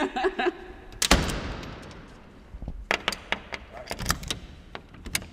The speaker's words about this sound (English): This beautiful bronze key with its ornate finial here. Can we shut the doors just to see what it would be like? We can definitely. We can lock ourselves in.